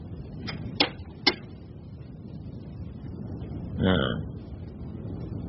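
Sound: door being opened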